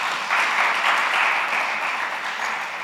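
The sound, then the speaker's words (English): An audience applauds the panelists at a panel event, a dense wash of many hands clapping at once that holds at an even level for a few seconds and begins to thin slightly at the end. “Round of applause to our panelists.”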